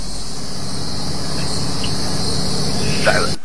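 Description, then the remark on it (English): A crickets sound effect: a steady chorus of crickets chirping continuously, a dense high-pitched trill that fills the whole stretch at a fairly loud, even level before cutting off abruptly at the end. “And just crickets going off in the background.”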